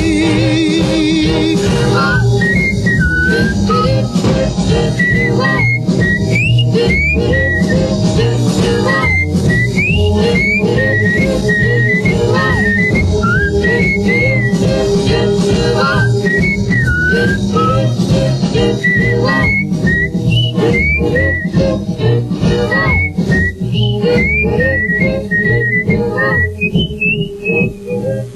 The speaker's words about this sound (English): I know you probably thought that was me whistling, but it wasn't.